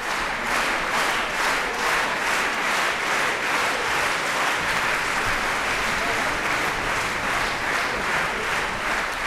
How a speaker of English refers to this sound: Clapped in unison, clapping yeah. Rhythmically. The rhythmic clapping is a real compliment. Like all of a sudden, the audience is like one. It shows respect for the performers if they break out into rhythmic clapping. And I find that really touching.